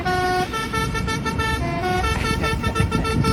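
A loud, brassy tractor horn plays a short melody of sustained notes that shift in pitch, over a steady low engine rumble and background traffic noise, played by farmers during their mobilization.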